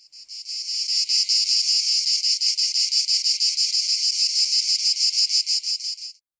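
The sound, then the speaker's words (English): Cicadas drone in a loud, steady, high-pitched buzz with a fast pulsing rhythm, continuous for several seconds before cutting off. No one speaks. “They're insects that make a very particular crying sound in the evening.”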